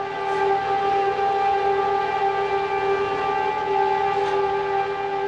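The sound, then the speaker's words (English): A loud, steady air raid siren blares continuously in Israel at 10 in the morning, sounding for two minutes as the nation comes to a standstill to honor Holocaust victims; its sustained tone holds without break, with no voices present. “In Israel, at 10 this morning, the nation came to a standstill as air raid sirens blared for 2 minutes to honor the millions who perished.”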